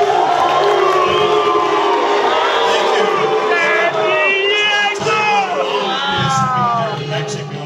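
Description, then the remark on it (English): A large stadium crowd at a Chargers event in Mexico City roars with a mix of cheers and boos as Chargers owner Dean Spanos is introduced to speak, a loud, steady wall of voices with rising and falling shouts and whoops over the full length. “But as Spanos was introduced, the crowd reaction was mixed.”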